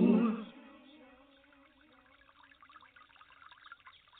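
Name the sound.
flowing water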